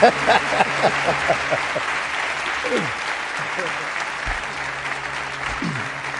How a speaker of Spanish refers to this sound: Hay una segunda parte para dar paso a nuevos invitados y la voz de algunos compañeros que no están aquí, y os pido un aplauso para ellos, los primeros invitados, mientras vamos cambiando.